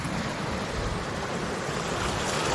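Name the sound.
ocean waves and wind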